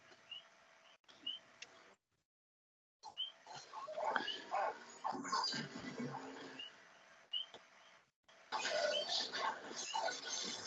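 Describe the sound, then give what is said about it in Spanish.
Diomen's dogs in a filmed scene make a rough, chaotic racket of grunting, snarling noises in loud, overlapping bursts as the table gets wrecked, broken by a couple of brief silences. No one speaks. “Son los perros de Diomen.”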